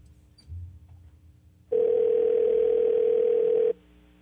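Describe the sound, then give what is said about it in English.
A single steady two-second ringback tone of an outgoing phone call placed by radio hosts to a listener, clear and fairly loud over a quiet line, preceded by a soft low bump and followed by quiet. “Okay, it's ringing.”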